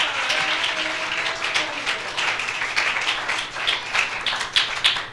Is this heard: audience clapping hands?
yes